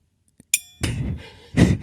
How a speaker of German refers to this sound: Warte, ich mach mal hier mit dem Klöppel so ein bisschen. Ja, da ist noch so ein Gong dran, so ein kleiner Gong, so ein Zen-Gong. Jetzt Vorsicht. Ich glaube, das ist der kleinste Zen-Gong der Welt.